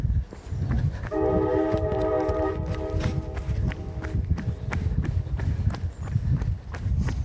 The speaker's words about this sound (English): Race the train. Yeah. Except it's going the other direction. No, it isn't either. It's going the same way we are.